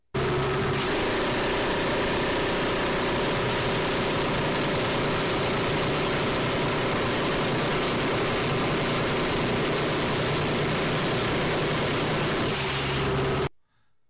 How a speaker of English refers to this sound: So the Gau 22, and this is from outside of an AC-130, so it's got the airplane noise in the background, but this is it's a Gatling gun. It's a 5-barrel Gatling gun.